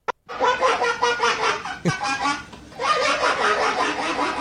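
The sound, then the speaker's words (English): A man imitates a duck using his hand cupped over his buttocks, making loud, raspy, nasal quacks that run almost without pause, broken by a short click and a brief dip midway before the honking quacks resume. “So the first one's a duck.”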